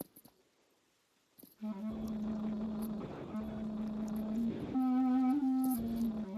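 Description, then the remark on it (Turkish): After a brief quiet moment, a clarinetist plays a short phrase of long, sustained notes as an example of breath use in performance. The pitch steps up partway through, and the instrument sounds fairly loud. “Şimdi ben mesela çalıyorum.”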